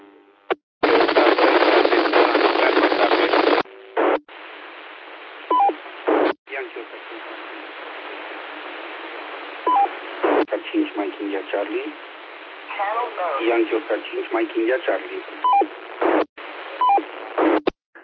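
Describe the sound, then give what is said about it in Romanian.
Crackly, band-limited radio transmissions open with a burst of static hiss. Short, high electronic roger beeps chirp at the end of several transmissions, between stretches of garbled radio voices. “Te auzi, dar scoate roger bipul ăla, că sună ca naiba.”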